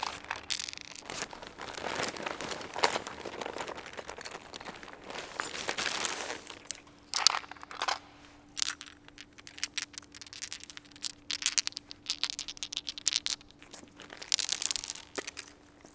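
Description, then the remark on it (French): Continuous crinkling and rustling of a bag of dice being rummaged through, with irregular bursts of crunching and shuffling that grow more sporadic toward the end. No one speaks. “Quand je fouille dans mon cava, ça met un truc que j'aime bien.”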